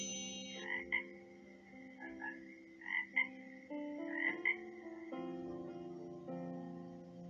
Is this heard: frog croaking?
yes